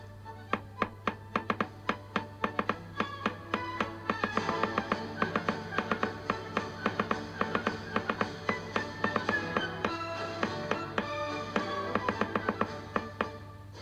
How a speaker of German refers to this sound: Der Rhythmus hingegen gibt an, ob die Töne einer Melodie kurz oder lang sind. Wenn ich nun beim gleichen Marsch den Rhythmus klopfe, dann tönt dies so.